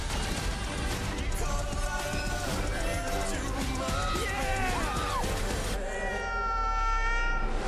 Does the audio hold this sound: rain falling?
no